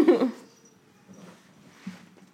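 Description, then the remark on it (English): Two cats, Parker and Marie, fighting as Parker tries to clean Marie and she resists: a sharp, loud yowl bursts out at the start, followed by softer growling, scuffling and a brief muffled cry. “The cats are fighting.”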